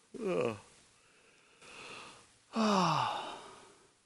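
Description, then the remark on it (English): A person imitates a yawn: two drawn-out, voiced, breathy sighs with a falling pitch, separated by a quieter exhale. “He starts yawning.”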